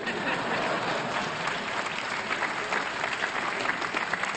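An audience applauds steadily for several seconds, a dense, even wash of clapping hands at moderate loudness with no pause or break in the sound.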